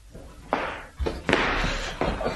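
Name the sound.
door opening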